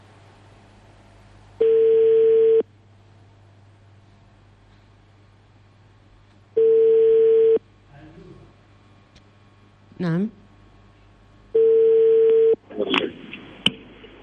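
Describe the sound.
A telephone line rings on a call to a guest, the regional director of education in Anfa, during a live show on Radio Aswat, three long steady tones spaced about five seconds apart over a low background hum, with a brief voice answering near the end.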